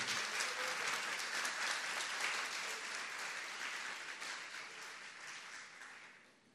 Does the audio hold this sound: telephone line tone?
no